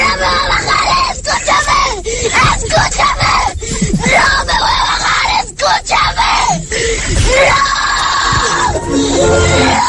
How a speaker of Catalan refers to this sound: Ara us poso uns exemples de canalla que marranegen i s'enrabien perquè volen un gelat o perquè no volen anar al metge i escolteu si es pot aguantar això.